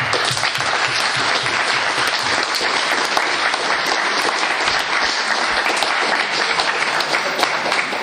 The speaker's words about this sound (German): Ja, ein großer Applaus für alle, die mitgemacht haben.